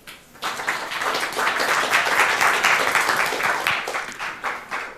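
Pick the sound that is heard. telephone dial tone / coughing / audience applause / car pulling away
audience applause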